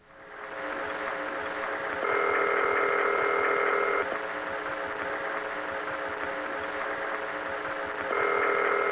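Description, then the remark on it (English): A telephone line with a steady hum and a repeating ringback tone, two-second bursts separated by a longer pause, as a call to Atlanta connects. No voices are heard. “I didn't record this, so the quality isn't very good, so you'll have to bear with me on this, but here is the phone call that went through to Atlanta after the people at AT&T actually heard the way she had announced that experimental recording.”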